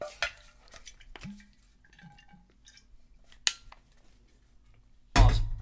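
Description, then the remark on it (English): Someone drinks from a water bottle: scattered soft clicks and clinks of handling, faint liquid sounds and a brief low tone, then a louder rushing burst at the end. No one speaks. “And, here, let me take a quick drink of water.”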